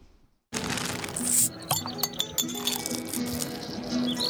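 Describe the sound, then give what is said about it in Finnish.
Several glasses clink together in a toast, bright ringing chimes overlapping after a sudden start, with a lively murmur of background chatter underneath. “Mutta nyt me toivotamme kaikille kippis.”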